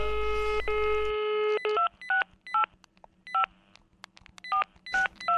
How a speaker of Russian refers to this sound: Сделай лучший звонок, чтобы никому не было обидно. Наберите кого-нибудь, ему со стороны лучше видно.